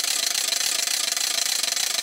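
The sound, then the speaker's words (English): A rattle trap toy shaped like a capital L, held by the short end and whipped around in the air, clacks continuously, its cogged wheel snapping against a tongue depressor in a fast, steady, loud stream of bright, dry clicks with no pauses and no voices. “We call this a rattle trap, and all this noise is generated from a tongue depressor and this little cogged wheel here.”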